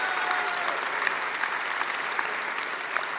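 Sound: audience applause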